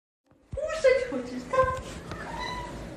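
Two cats meow in a few quick, overlapping cries, one higher and one lower, while being fed in an apartment in Kyiv, with soft background shuffling.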